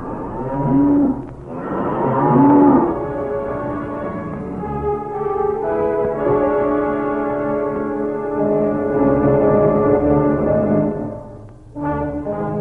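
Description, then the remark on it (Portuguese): An ox moos loudly, a couple of short bellows followed by one long, drawn-out, droning low call, then another brief moo at the end; no one speaks. “Só não entendo porque ele tem que entrar no estábulo. Bom, porque ele fez uma promessa pro boi, né?”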